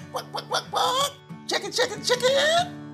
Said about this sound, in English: Chicken.